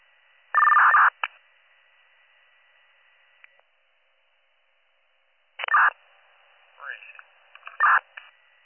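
Dispatch alert tones for a BLS call to Belvedere Road and Brainerd Road, Harmony Township, with two patients, crackle over a two-way radio: a loud, steady tone burst, a pause of faint static, then another tone burst followed by garbled, tinny radio transmission.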